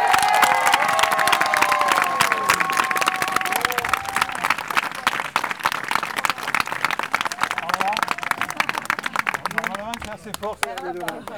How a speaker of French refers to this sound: Pour elle, qui est actuellement à l'autre bout de l'Occitanie, qui est dans le Gers, je vous demanderai, ici même, pour que vos applaudissements arrivent jusqu'à elle, d'applaudir très fort Pascal Terron.